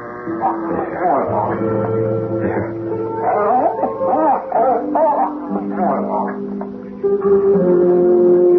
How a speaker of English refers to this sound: Now get rid of this dog. Here, Brucie. Here, boy.